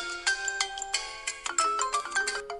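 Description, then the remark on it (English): A phone ringtone plays a quick, bouncy melody of bright electronic notes, repeating in short bursts, moderately loud with no one talking. “It's my phone.”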